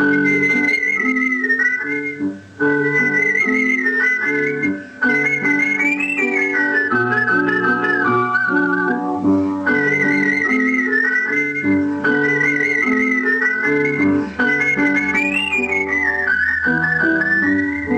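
A clear, sustained whistled melody glides and trills over a full instrumental accompaniment, carrying a lively tune in repeated phrases for the whole stretch, close and prominent with no talking.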